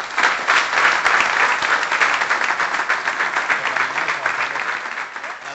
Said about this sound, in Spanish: Aplausos de nuevo, lógicamente, para Florentino Fernández, después de todo este discurso